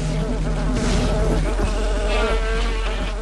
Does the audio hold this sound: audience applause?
no